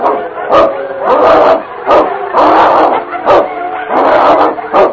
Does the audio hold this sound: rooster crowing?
no